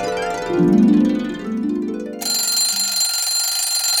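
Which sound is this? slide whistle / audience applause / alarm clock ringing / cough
alarm clock ringing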